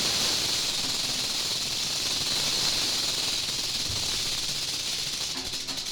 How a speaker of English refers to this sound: Look out, rattlesnake.